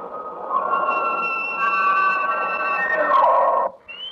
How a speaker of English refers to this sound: This one I always like to hear because that means the spring is just around the corner. That's the little spring peeper. They're little tiny frogs about 3/4 inch long, and they start bellowing like this every spring. They really peep, don't they?